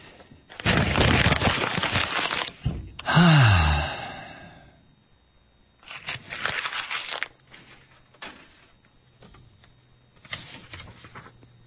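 Loud crackling of paper being crumpled up in three separate bursts, with a drawn-out vocal sigh after the first burst; nobody speaks.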